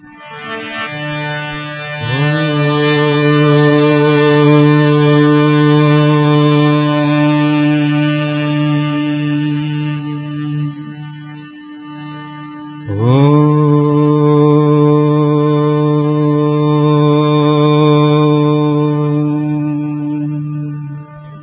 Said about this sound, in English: that Om has to come from the belly and not just from the throat